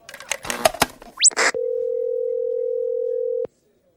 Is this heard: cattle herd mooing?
no